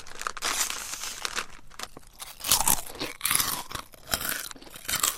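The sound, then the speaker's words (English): Crisp crunching of corn chips being chewed, with a rapid series of dry, crackly bites and crinkles over several seconds and no talking. “Food companies say a new kind of maize could take the crunch out of corn chips and other popular foods.”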